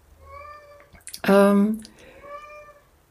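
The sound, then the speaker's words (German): A domestic cat meows repeatedly in the background: soft, drawn-out calls frame one loud, sharp meow in the middle, then the quieter meowing trails off again. “Und ja, meine Katze ist im Hintergrund, vielleicht hörst du sie. Ist gerade sehr kommunikativ.”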